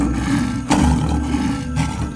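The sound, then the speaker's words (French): A lion roars loudly, a deep rumbling growl that swells into two forceful bursts about a second apart, with no voices. “Le lion est longtemps invisible. Soudain, en fin d'après-midi, il apparaît.”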